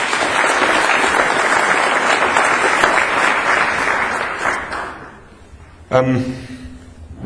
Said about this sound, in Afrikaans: Kom ons gee vir Here 'n groot hande klap.